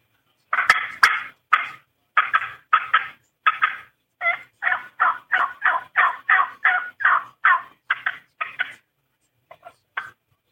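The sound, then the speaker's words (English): Cutting on a turkey call imitating a hen: a long run of sharp, loud clucks in quick, uneven bursts, trailing off into a few last scattered notes, with no talking. “And then when I'm calling on mid-morning, I'll walk along cutting. Something like this.”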